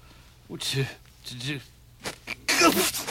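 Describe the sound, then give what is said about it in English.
A single loud sneeze bursts out near the end, preceded by a couple of short voiced sounds, likely a sniffly lead-up or a brief bit of talk. “Bless you.”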